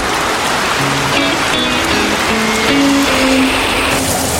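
Steady, dense rain falling with a constant hissing wash, with soft melodic notes drifting faintly through it and no voices.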